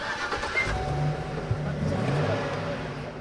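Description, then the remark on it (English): A rented moving truck loaded with sedum rolls cranks to life and settles into a deep, steady rumble with a slight rev, fairly loud, its low drone filling the few seconds; it is bound for the town of Missoula, 30 miles up the road. “Loniker and Mosley fire up a rented moving truck full of sedum rolls.”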